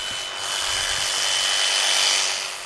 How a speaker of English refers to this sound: Every year, he collects dead geese for research. Today, he's outside shaving the feathers off the birds at the South Farm Research Center in Columbia, Missouri. He has to get to the body so he can measure each bird's protein and fat content.